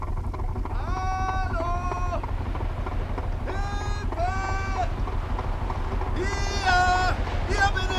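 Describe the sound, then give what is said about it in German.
A motorboat engine drones in a steady low rumble on the water at night, with several drawn-out shouted calls from people ringing out above it at intervals. “Da ist jemand in einem Motorboot.”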